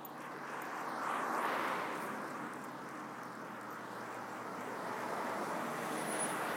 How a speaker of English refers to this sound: We're on the way home now. I can hear the bus coming.